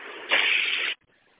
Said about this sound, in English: I don't know if you can hear my doors, but they will not shut. They're just opening and closing for about the last 5 minutes now. So I'm not even going to be able to move the bus.